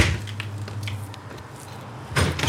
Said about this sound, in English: When no one answers, we ring the bell. The door opens.